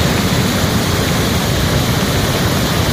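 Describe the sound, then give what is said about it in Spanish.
A torrential downpour from storm Efraín in Extremadura, Spain, on 13 December roars steadily and loudly, a dense, unbroken hiss of heavy rain with a low rumbling undertone, continuous throughout with no voices. “Es el sonido de la tromba de agua que provocaba la borrasca Efraín y que causaba importantes daños en más de medio centenar de localidades”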